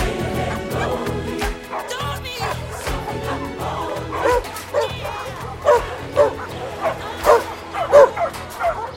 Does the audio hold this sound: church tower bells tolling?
no